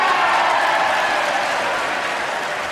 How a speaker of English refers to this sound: And the whole, you know, all the congregation, all the lawmakers stood up and applauded.